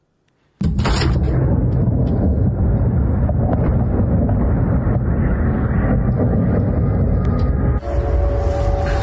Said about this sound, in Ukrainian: Сегодня утром Белгород подвергся обстрелу ракетами и дронами. Работало ПВО.